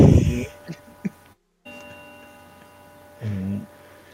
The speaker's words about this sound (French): Il y a même les cloches funèbres en arrière.